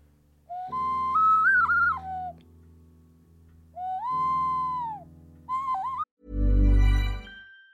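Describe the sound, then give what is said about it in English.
A Spanish clay ocarina plays hollow, breathy flute-like notes in three short phrases with sliding pitches, followed by a loud, low, rumbling burst at the end. No one speaks. “But if you're lucky, you're going to hear the beautiful dulcet tones of this clay Spanish ocarina.”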